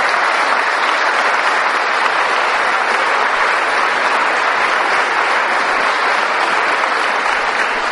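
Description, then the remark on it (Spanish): An audience at the feast of the Good Shepherd claps steadily for the bishop, a dense, sustained wash of many hands that holds at an even, fairly loud level for the whole stretch without pause or voices. “¿Ya le dieron aplauso al obispo hoy?”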